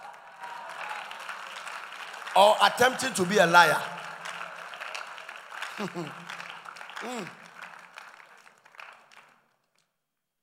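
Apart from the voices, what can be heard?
audience clapping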